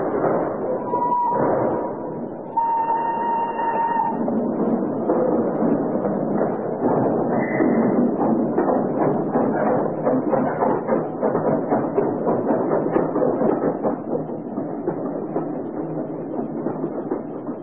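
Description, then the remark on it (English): A train, the 10:30 out of Paddington, rolls steadily along the rails, its wheels clattering in a quick, regular rhythm over a continuous rumble, with a couple of brief high-pitched tones near the start. No one speaks. “Then on Saturday, unless you hear to the contrary, we shall meet at the 10:30 train from Paris.”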